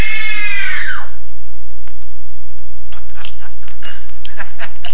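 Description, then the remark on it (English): A woman lets out a shrill, terrified scream on command during a film screen test, lasting about a second before breaking off, followed by quiet background with a few faint scattered clicks. “Now scream. No! Scream! No! Scream for your life!”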